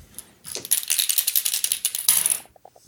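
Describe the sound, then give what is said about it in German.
Dice clatter and rattle across a hard surface for about two seconds, a dense run of sharp clicks that ends with a few last taps. Fairly loud, with no talking. “Wir würfeln gleich Quersummen, dann geht's schneller.”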